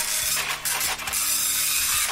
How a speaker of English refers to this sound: Right, I'll just print that off. It's quite a slow printer